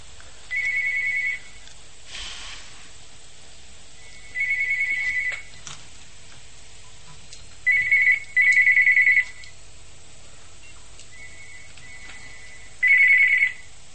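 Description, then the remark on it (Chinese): A telephone that the host does not answer rings with short electronic trilling bursts, repeating several times at uneven intervals, one burst doubled, clear over a low steady hum, with no one talking. “请大家不要打那个电话，因为台长那个电话不接的。”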